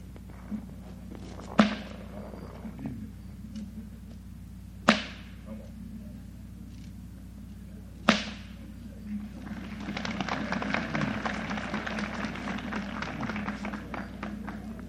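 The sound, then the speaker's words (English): Three sharp, loud bullwhip cracks ring out a few seconds apart as a man pops the whip in different ways, each snapping and fading quickly, followed by a burst of crowd noise, likely applause, toward the end. “Okay, he's going to pop the whip different ways.”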